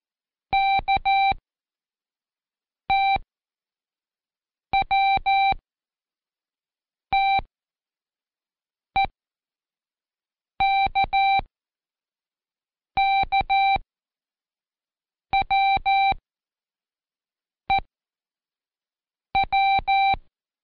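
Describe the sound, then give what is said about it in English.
Ten short bursts of Morse code letters in a check test, each a steady electronic tone keyed into quick dits and longer dahs, with pauses between letters. The beeps are clear, with no talking. “You already know 4 of the pieces of Morse code.”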